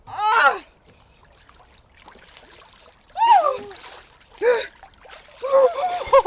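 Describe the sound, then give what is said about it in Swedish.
Water splashes and sloshes as someone plunges through a dark hole in the ice after a sauna, going a few seconds under the water, with sharp gasping vocal cries breaking out over the watery noise several times. “Och nu är det vattnet som gäller. Åh, det här mörka, mörka hålet! A few seconds under the water.”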